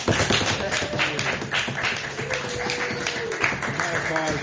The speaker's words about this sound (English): Applause.